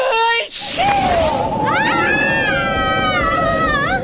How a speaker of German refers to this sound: Er hat sich doch verkühlt. Was für ein Windstoß. Bibi und Flowey Powie wirbeln durch die Luft. So kräftig hat der Flugdrache genießt.